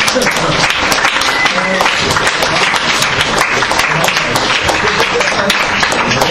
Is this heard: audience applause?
yes